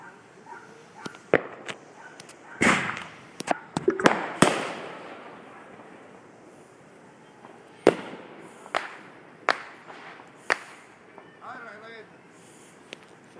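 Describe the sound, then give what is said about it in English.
Fireworks go off outdoors in Louisville in a series of sharp bangs and crackling pops at irregular intervals, some in quick clusters, with quieter stretches of faint background rumble between bursts. “If you're not in Louisville, you wouldn't know this necessarily, but our downtown fireworks display was canceled because of budget cuts, so this is our fireworks.”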